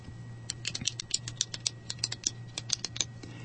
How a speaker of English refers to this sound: I love the sound that a clicking pen makes, don't you?